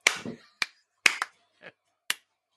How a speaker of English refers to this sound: There's a fly here. I'm not clapping you.